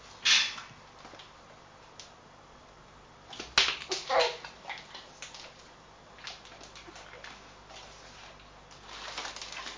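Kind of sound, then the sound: animal, dog whimpering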